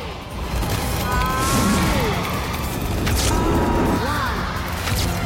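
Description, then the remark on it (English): A loud, chaotic crash as a person wearing an opened rucksack parachute smashes through a frosted glass roof, with booming impacts and clattering debris over a dense roar for several seconds. No one speaks. “The Prime Minister jumps back as Alex crashes through the ceiling”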